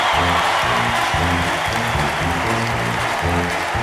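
Steady, dense applause fills the whole stretch, loud and unbroken, layered over rhythmic band music with booming low horn notes pulsing underneath.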